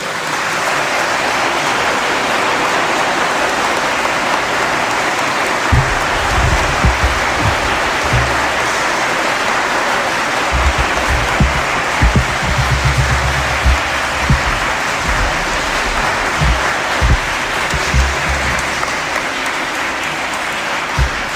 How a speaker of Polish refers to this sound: Na początku składam serdeczne podziękowanie Jego Ekscelencji księdzu biskupowi Januszowi Stepnowskiemu za pasterską troskę o wydarzenie i wszelką pomoc. Ogromne brawa.